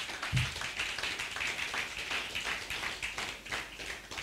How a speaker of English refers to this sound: Come on, give the Lord a clap offering in this place.